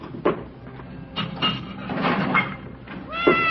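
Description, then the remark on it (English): A Siamese cat meows insistently while being fed milk, several drawn-out, wavering cries in quick succession, the last one rising sharply, with faint background clatter in between. “Siamese? A little bit, yeah. It's my wife's. Don't care too much for cats myself.”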